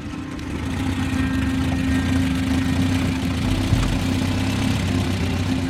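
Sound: car engine idling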